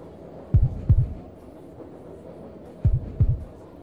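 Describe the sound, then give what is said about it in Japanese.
A muffled heartbeat heard through a chest pressed against the listener, two deep lub-dub double thumps separated by a pause, over a low steady hum with no voices. “聞こえますか、押し当てられてしまっている私の胸からの鼓動がときめきがこちらにも伝わってきてますよ。”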